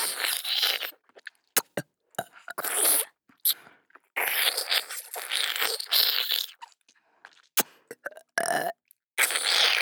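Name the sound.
burping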